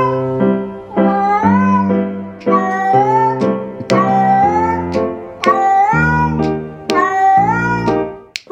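A taped recording of a cat meowing, scored to music, repeats over and over in a steady, almost musical rhythm, loud, each cry rising and falling in pitch, with low sustained tones underneath and no one talking.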